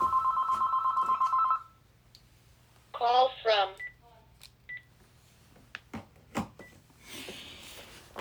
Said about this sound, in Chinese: 等一等啊，我有电话。